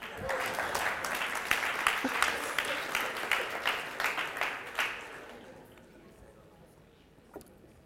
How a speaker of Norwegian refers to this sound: Applaus.